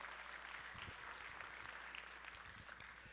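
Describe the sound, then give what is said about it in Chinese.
An audience applauds steadily for a few seconds to give glory to God, many hands clapping in a dense, even wash of sound that stays fairly soft, with no voices standing out. “拍手降荣耀给我们的神。”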